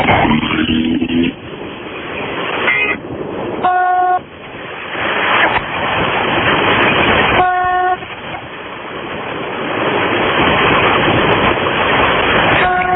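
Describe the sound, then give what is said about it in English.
Short, loud car horn blasts sound twice, a few seconds apart, over a constant heavy roar of traffic at the corner of Central and Ridge Road as the light turns green, with a lower tone at the very start. No one speaks. “you wait for people to honk at you”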